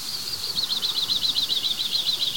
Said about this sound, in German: Hört ihr dieses? Das ist ihr Ruf. Und so einfach, fast eigentlich nur aus einem Rhythmus bestehend. Drr, drr, drr, drr. Das ist die Meise des Kiefernwaldes, würde ich sagen. Das ist eigentlich die Kiefernmeise. Heißt auch Haubenmeise.